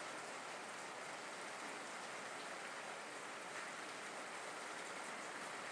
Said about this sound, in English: So we've got the front door and the back door open. Got stereo rain. I don't know if you can hear it. Maybe if I shut up.